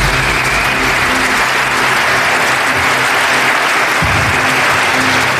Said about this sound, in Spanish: Oye, solamente quiero darte un fuerte aplauso de parte de todos nosotros, ¿verdad?